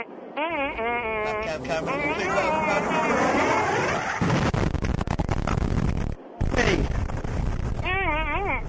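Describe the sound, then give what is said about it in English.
A wavering, warbling voice-like tone gives way to a loud, sustained blow-up sound effect from Mr. Henry's Sound Effects Library, a rough roar of noise lasting a couple of seconds, then breaking off before more warbling and noise return. “Where'd you get that blow-up sound effect?”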